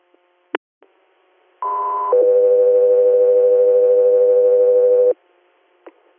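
A loud two-tone radio dispatch alert for the air unit Echo 3 Air: a brief higher pitched tone steps down into a long, steady lower tone lasting about three seconds, framed by faint radio clicks, with no voices.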